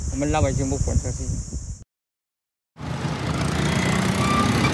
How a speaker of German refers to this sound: Der Lärm dutzender Baustellen vereint sich zu einem mörderischen Crescendo im kambodschanischen Sihanoukville. Dröhnende Bagger, ratternde Presslufthämmer, hallende Stahlträger.